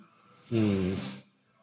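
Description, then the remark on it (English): A single drawn-in sniff of whiskey lasting under a second, a breathy hiss layered over a low voiced hum, set against a quiet background. “So before we go into it, let's have a sniff, and then I've got a question for you.”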